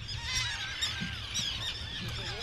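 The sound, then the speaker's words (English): A dense chorus of shrill, overlapping screeches and cries from hundreds of gulls and terns circling overhead at a seabird colony on Eastern Egg Rock, an exposed 7-acre island that is home to Project Puffin. The sound is continuous and busy throughout, with wind or a low rumble underneath. “Hundreds of screeching gulls and terns circle overhead.”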